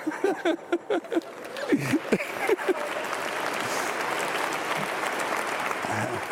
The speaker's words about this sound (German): Der Applaus, der war ihm sicher.